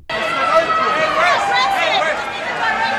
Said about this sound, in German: Ja, schreiende FotografInnen und kreischende Fans.